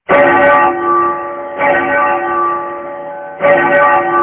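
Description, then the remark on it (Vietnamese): A large temple bell at the Shaolin Temple is struck three times in quick, urgent succession, each loud clang ringing on and overlapping the next, with no voices present. “Cũng nghe từ phía Thiếu Lâm tự tiếng chuông vang lên dồn dập, nghe thật khẩn cấp.”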